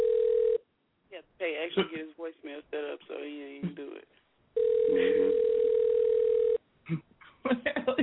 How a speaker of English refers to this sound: What the hell are you doing? Nobody phone rings. You're like, I know I paid my bill. Nobody phone rings a million times like that.